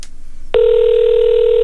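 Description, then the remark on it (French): An outgoing phone call's ringing tone starts after a short pause, a steady, fairly loud electronic tone that holds without a break until the end, with no voices over it. “On va appeler quelqu'un? Ouais. Ça appelle.”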